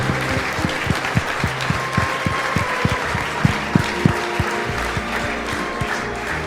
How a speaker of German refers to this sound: Ralf Minge, der Pate, ja? Nochmal Applaus, hey, für den Ralf!